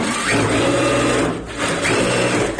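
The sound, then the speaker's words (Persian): A sewing machine in Nasrin Keshavarz's tailoring workshop runs with a steady, rapid mechanical whir and clatter, briefly easing off midway before picking up again at full speed. No one speaks. “تا دو ماه پیش در این کارگاه خیاطی نسرین بیش از 40 نفر فعالیت داشتند، اما حالا تمام ماشین‌های خیاطی از فعالیت باز مانده.”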